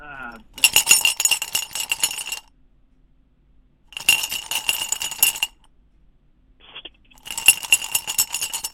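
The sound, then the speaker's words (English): Pens rattle and clink inside a cup in three shaking bursts of a couple of seconds each, separated by short pauses, fairly loud. “I'm gonna be an inanimate object. I'm gonna be some pens.”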